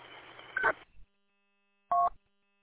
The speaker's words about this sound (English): Somebody's ringing the door. She must have bought them. I have to sign for her.